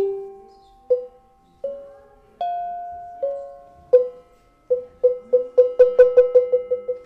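Cowbells of several sizes, one largest, two smaller and a very small one, struck with a soft felt mallet give mellow, ringing tones at a few different pitches, first single slow strikes that decay, then a quickening run of rapid repeated hits.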